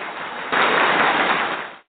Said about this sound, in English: Yeah, so let's bring him on. Let's welcome him with a wonderful round of applause.